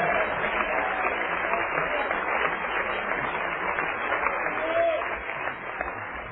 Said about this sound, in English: Everybody clap your hands and shout yes to the Lord.